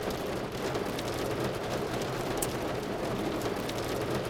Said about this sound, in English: What is it like for you sitting in a, what appears to now be a hailstorm?